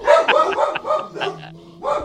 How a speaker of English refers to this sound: Hold on. Someone, I don't know, can you hear the dogs? Yes, I can hear them. I think them. The mailman's here.